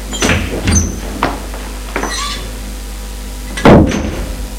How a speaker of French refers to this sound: Une fois qu'elle a fermé la porte du salon